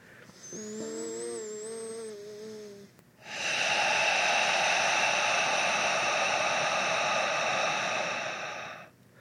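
A long, steady, rushing breath drawn through a constricted throat, an ah sound made from the back of the throat, breathing in through the nose and out through the mouth, like a soft ocean hiss, sustained for several seconds after a quieter opening with faint tones in the background.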